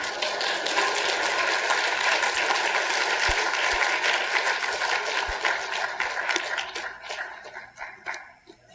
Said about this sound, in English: Now, I don't know if the church at Lexington clapped or not, but you can.